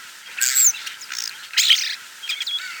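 A starling sings in a run of scratchy, chattering phrases mixed with thin whistles, three or four bursts separated by short pauses, with no voices.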